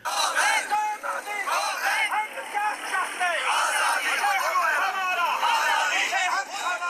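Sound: protest crowd chanting slogans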